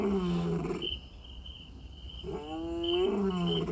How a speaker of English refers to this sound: Depends a bit on the wind, on the denseness of the bush, whether he's roaring full out. Those short roars, he's probably not more than about 1 kilometer away, otherwise they wouldn't have been so audible.